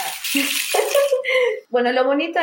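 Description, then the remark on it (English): A large rain stick is turned, pouring out a continuous rushing patter like falling water, fairly loud, with a voice sounding over it throughout. “While she was telling us this, … turned a large rain stick.”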